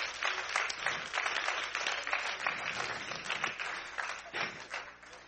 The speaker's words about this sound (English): Get the Lord a hand clap of praise.